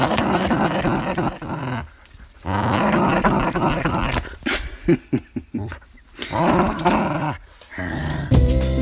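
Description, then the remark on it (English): A dog, Rosie, growls playfully and happily in several rumbling bursts with brief pauses between them, fairly loud, with no talking over it. “That was a little bit of Rosie you heard growling. That was fun growling, happy growling.”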